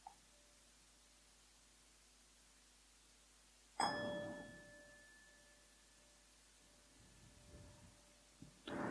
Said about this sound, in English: And now I'll ring the bell three times, and on the third time, if you'd like to come out of meditation, you're welcome to.